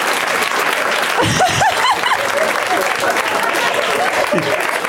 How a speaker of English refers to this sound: This show's come to the point where people cheer when somebody pulls out one movie.